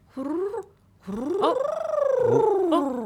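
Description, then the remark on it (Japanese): A voice performs the Ainu hororose call: a short rolling trill, then a longer, loud warbling one that rises and slowly falls in pitch with a rapid, throaty flutter. “このホロロセ、さまざまなアイヌのこう、はい、歌や踊りの中にもたくさん登場してきますもんね。”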